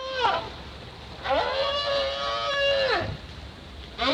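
Recorded whale calls played back through an underwater speaker lowered from a boat: a brief moaning cry, then a long harmonic wail that holds steady before sliding down, and the start of another, clear over a faint hiss.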